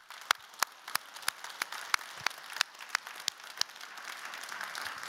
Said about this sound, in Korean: 그런 하나님께 감사의 박수를 드립니다.